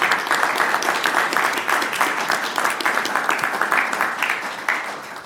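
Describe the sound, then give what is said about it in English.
A steady round of applause from a group, dense overlapping claps sustained evenly for several seconds at moderate loudness, with no talking over it, congratulating a doctor on her retirement. “maybe we could have a congratulatory round of applause for Dr. Raymond on her retirement”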